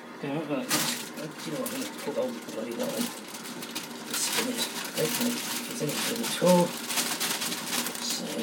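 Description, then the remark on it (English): A steady, airy hiss of steam from a cooking pot with its lid lifted runs throughout, with brief louder bursts, while a person talks over it and small clinks and clatters come and go. “Put you there, you can hear the sound of the steam.”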